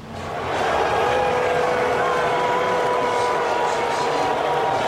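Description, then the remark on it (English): A large crowd at Nationals Park in Washington, D.C., during Game 5 of the World Series boos President Trump, with chants of "lock him up", in a sustained, loud roar of drawn-out, low vocal tones, swelling in over the first second and holding steady without a break. “You can hear some in the crowd booing him and even chants of lock him up.”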